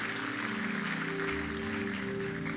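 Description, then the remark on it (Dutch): An audience claps steadily for a few seconds for people who made a choice for Jesus, a dense wash of applause mixed with a sustained musical drone underneath, with no voices heard. “Laten we deze mensen applaus geven voor de keuze die ze maakten voor Jezus.”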